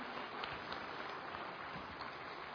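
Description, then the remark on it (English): A steady burst of audience applause for the translators, dense overlapping claps forming a continuous crackling wash at a fairly even level throughout, with no voices heard. “So big hand to them.”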